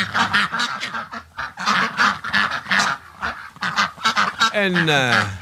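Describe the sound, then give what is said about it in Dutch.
A loud duck sound-effect jingle introducing a radio show's 'vreemde eend' (odd one out) slot for an English-language song: rapid bursts of nasal honking quacks in a bouncy rhythm, ending with a bright, swooping musical flourish. “En daarom heb ik hier ook de vreemde eend voor u.”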